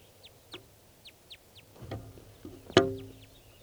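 crossbill calls

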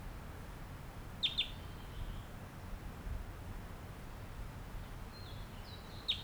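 wild bird song

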